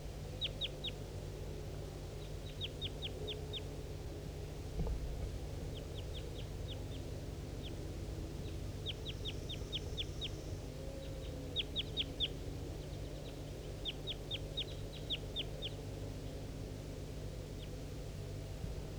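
wild bird calling

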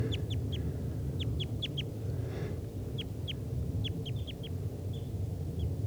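type 2 crossbills calling

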